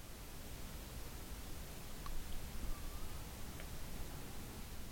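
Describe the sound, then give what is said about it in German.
Soft, steady rushing of ocean waves on a sandy beach, a continuous hiss with a slight swell in the middle, and no voices. “Und du kannst das Rauschen des Meeres hören.”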